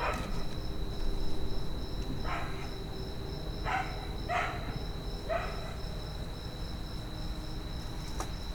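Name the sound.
dog barking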